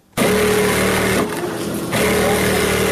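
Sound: electric sewing machines running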